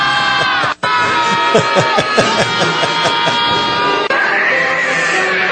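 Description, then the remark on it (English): A group of people sitting in a circle, rubbing each other's backs, scream and yell together at full volume, a dense, continuous wall of raw vocal noise with wavering pitches, broken only by a brief dropout near the start. “And literally, if you watch the video, these people are sitting in a circle, rubbing each other's backs and screaming at the top of their lungs.”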